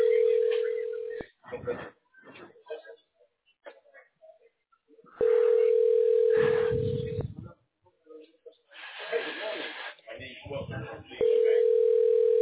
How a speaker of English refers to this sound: Right now it's ringing. First time I went to the answer machine. I think this one will too.